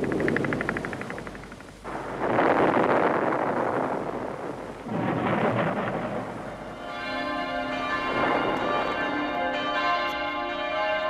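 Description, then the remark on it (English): Loud, rumbling booms like explosions fill the first several seconds, then the bells of the Frauenkirche in Dresden ring out with rich, sustained overlapping tones that continue steadily to the end, with no one speaking. “Today, the bells of the Frauenkirche are ringing again.”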